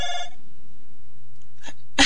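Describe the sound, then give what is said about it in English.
A brief, bright electronic ring sounds at the start, then quiet hum, followed by two sharp breathy bursts near the end, likely a sneeze or gasp. “I don't know if anyone else can hear that ringing.”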